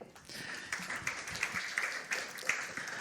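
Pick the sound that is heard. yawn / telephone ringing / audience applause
audience applause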